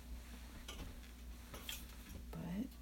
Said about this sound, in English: don't you love the sound of steam? I don't like the feel of steam.